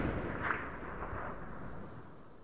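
A loud, deep boom of a blank gunshot as someone ignites powder when wooden gates are pulled open at the start of a turkey race, rolling out into a sustained, rumbling roar that barely fades over a couple of seconds, with no voices.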